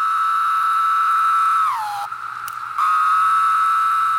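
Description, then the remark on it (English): A loud, steady buzzing drone of a chorus of Linnaeus' 17-year periodical cicadas, recorded by Lang Elliott and Will Hershberger for the book The Songs of the Insects, holds one pitch, slurs downward and breaks off briefly, then resumes just as strong. No voices are heard. “We leave you this week with the eerie chirps and drones of a once-in-a-17-year visitor.”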